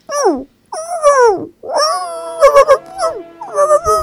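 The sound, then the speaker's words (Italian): A small, high wolf cub's howl in several short gliding cries, rising and falling with brief gaps and a few yips, fairly loud, with no talking. “Poi guardò la volpe negli occhi, perché aveva ancora un'amica da salvare. Fece un piccolo ululato.”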